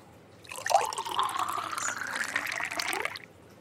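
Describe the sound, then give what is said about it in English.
Wine is poured into a glass in one steady stream lasting about three seconds, the gurgling tone climbing slightly as the glass fills, with no voices. “would you mind pouring the wine?”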